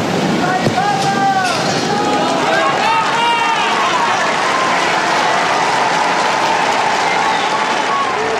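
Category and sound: crowd, applause from pilgrims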